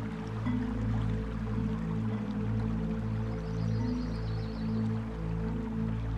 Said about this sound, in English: So make your way past that fountain now. And as you pass the fountain, you might feel the occasional splash of water as the mist hits your face.